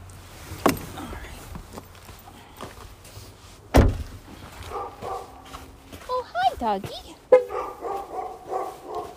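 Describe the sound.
A dog barks in a quick series of short, yappy bursts toward the end, following a couple of sharp thuds, with faint background noise and muffled voices.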